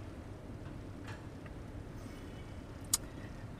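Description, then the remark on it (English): A steady low rumble of cars crawling along in a slow traffic jam, engines humming, with a couple of faint knocks and one sharp brief click near the end. “Of all the days to have a traffic jam, it just had to be today.”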